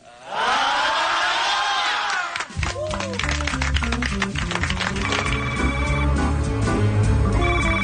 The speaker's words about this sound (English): It's 3 a.m. and the phone's ringing in the White House. Who do you want to answer that call?